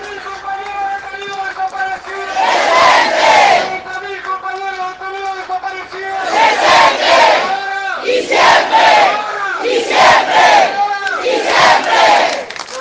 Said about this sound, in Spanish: Ahí se retira la camioneta que transporta a Mazaferri. Hay aplauso general, hay satisfacción por esta condena.